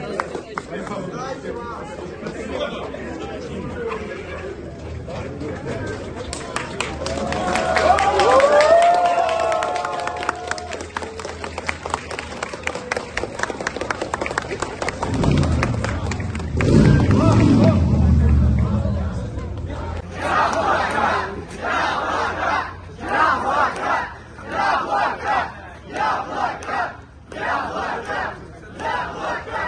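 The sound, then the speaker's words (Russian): A crowd of more than 500 people outside a courthouse during a hearing, a dense mix of many voices with shouts and cheers rising in the middle, then rhythmic bursts of clapping and chanting toward the end. “около здания суда собралось более 500 человек”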